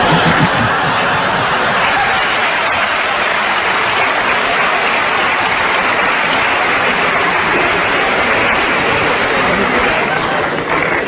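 A crowd applauds steadily and loudly for about eleven seconds, a dense, even wash of clapping with faint bits of laughter mixed in.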